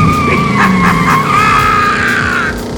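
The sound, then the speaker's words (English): A loud, sustained tire squeal wails over a low engine rumble for a couple of seconds, wavering in pitch as the driver slams on the brakes and spins the steering wheel and the car skids, then fades out. “The driver slammed on the brakes, spun the steering wheel, and the car hurtled forward once more.”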